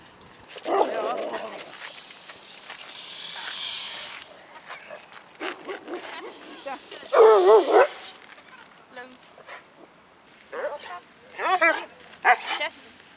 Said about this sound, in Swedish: Jag tänkte ju säga det, så där får man inte göra, va? Man får inte skälla på andra hundar. Den här hunden är nästan kasserad. Han har alldeles för stort hundintresse.